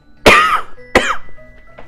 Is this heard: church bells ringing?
no